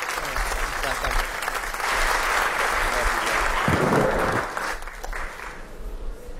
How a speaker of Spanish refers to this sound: Vamos a darle un aplauso grande al pastor de jóvenes